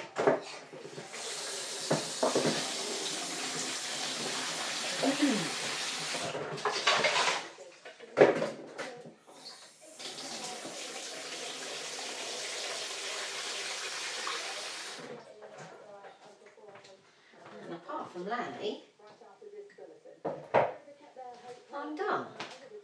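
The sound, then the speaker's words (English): A kitchen tap runs in two steady bursts of several seconds each, with a brief clatter between them, as a dog's water bowl is refilled; a voice speaks quietly afterward. “Change the dog's water.”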